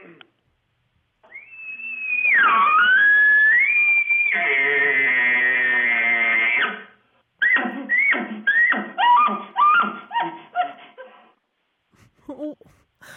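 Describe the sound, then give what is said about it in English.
A person imitates a bull elk bugle: a high, whistling rise into a long, strained squeal, followed by a string of quick, throaty chuckling grunts that trail off. “but can I hear your elk call? Sure. Here, I'll do one.”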